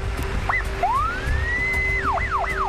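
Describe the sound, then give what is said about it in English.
An ambulance siren sounds loud, a long rising wail that shifts into quicker repeating whoops, over a steady engine drone and road rumble as the ambulance speeds down the road. “The ambulance speeds down the road.”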